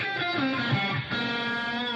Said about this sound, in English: There it is without the EQ. In this case, the wolf tone is here. Hear it?